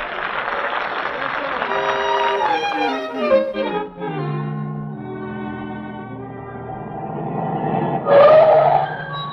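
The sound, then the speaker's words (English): A car revs loudly, its engine pitch sliding up and down as it pulls away down the road, ending in a sharp squeal of tires. “Hop in my car. We'll all go down the road.”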